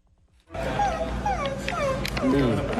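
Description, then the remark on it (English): A woman who pretends to be a dog for paying users of her blog makes a string of whiny, yipping dog-like vocal sounds, their pitch sliding up and down. The sounds run steadily for a couple of seconds after a brief quiet start. “Now she says that she makes six figures a month by pretending to be a dog on her blog.”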